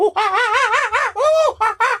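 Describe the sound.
A human voice imitates screeching Australian birds with loud, warbling, wavering shrieks in quick bursts, one long squawk in the middle and a few short cries at the end.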